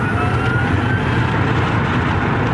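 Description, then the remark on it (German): A Tesla electric car accelerating hard from 0 to 60 mph (0 to 100 km/h) in 3.9 seconds, at Tesla in Mountain View, California: a thin, high motor whine climbs steadily in pitch over a loud, constant rush of road and wind noise, with no voices. “So hört sich die mobile Zukunft an.”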